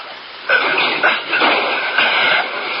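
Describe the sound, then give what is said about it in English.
A garage door rolls shut with a steady rumbling rattle, broken by several dull clunks at roughly half-second intervals. It stays fairly loud throughout, and no one speaks. “Well, let's get the garage door shut.”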